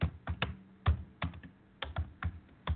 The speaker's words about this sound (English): as you hear me typing here, that we are on air here at 1650 AM Radio Free Connecticut.